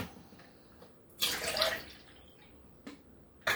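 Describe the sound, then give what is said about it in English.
Orange juice is poured into fancy cups for a family's communion: a splashy, gurgling pour lasting about half a second, followed by two brief trickling bursts, with no talking. “So we're going to pour some orange juice so that we're ready when we get to that part of worship.”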